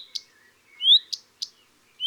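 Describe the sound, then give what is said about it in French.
A common redstart calls: several sharp, dry alarm ticks around a single clear, rising whistle, spaced irregularly over a couple of seconds with quiet gaps and no voices. “Le rouge-queue à front blanc,”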